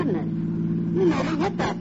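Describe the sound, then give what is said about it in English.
A car engine hums in a steady, low drone for about two seconds, fairly loud throughout, with brief voice-like sounds rising over it toward the end. “You never hit that car.”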